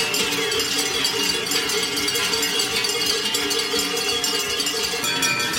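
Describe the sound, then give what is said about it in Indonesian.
Many cowbells, a symbol of Switzerland, clang continuously at once as about 1,000 Swiss farmers protest outside the Federal Office for Agriculture on the outskirts of Bern, a dense, jangling metallic din with overlapping bright rings and no pauses, steady and loud throughout with no voices standing out. “Bukannya datang dengan traktor, para petani justru membunyikan genta sapi yang menjadi lambang Swiss.”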